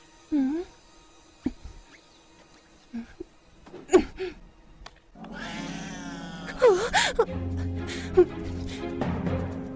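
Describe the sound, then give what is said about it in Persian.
A cat meows several times at uneven intervals. In the second half the meows sit over a busier background with a steady low hum and murmuring, voice-like sound. “داشتم از ترس سکته می کردم گربه یگر.”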